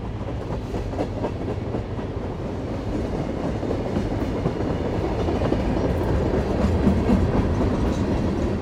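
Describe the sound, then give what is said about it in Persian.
A train travelling to Khuzestan rumbles steadily along the rails with a dense, continuous clatter of wheels, fairly loud throughout, building slightly toward the end, with no voices. “چمدونم رو بستم و راهی راهن شدم. توی ایستگاه قطار”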